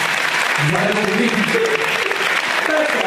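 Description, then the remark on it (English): An audience claps loudly and steadily for about three seconds in appreciation of the signs they are holding, a dense wash of hand claps with scattered cheering voices mixed in. “Round of applause for all your signs.”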